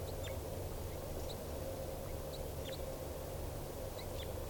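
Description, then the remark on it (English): Alarm calls of wild crossbills in the trees: short, sharp high notes repeated irregularly, fairly faint over a steady background rumble of wind or traffic, with no voices. “Also alarm calls.”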